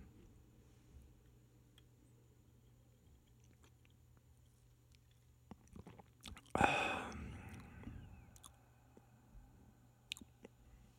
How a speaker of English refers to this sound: This is not a bad beer. You do get that roast at the end, though. But it's not overbearing. You get, like, the tail end of the roast. Have another sip.